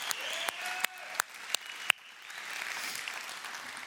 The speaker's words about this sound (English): So let's give God a round of applause for what he's done.